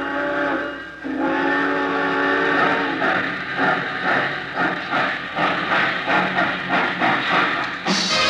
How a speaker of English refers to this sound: Attention, please. All passengers taking the chief to Chicago, please walk on tiptoes as you board the train.